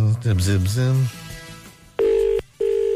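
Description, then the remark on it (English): A voice makes a brief sound, then two steady electronic telephone keypad tones beep in quick succession as a phone number is dialed, each lasting under half a second, clear and fairly loud. “Just punching in my digits here.”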